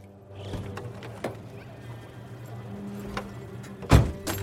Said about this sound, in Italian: Nascosto tra alcune siepi, qualcuno la spia aprire la portiera.